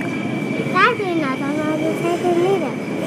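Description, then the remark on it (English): A train rumbles steadily through Fulton Street station without stopping, with a thin, constant high whine riding over the roar, while a person speaks briefly over the noise. “You see another train coming in the station?”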